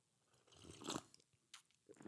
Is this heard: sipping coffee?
yes